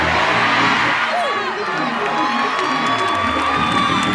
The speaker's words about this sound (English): Stomp your foot and shout, put it back.